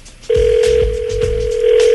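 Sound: outgoing telephone call ringing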